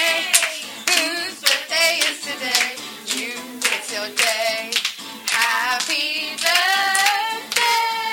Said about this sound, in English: Here we go. You can all stand up and we can clap this.